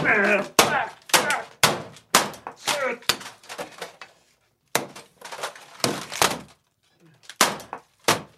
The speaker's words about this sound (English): he finally just starts smashing the phone